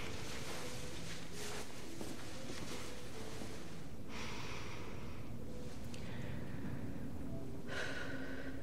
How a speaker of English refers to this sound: A woolly cardigan is draped across a chair beside the bed. Sam puts it on, wrapping the material tightly around her and breathing in its scent.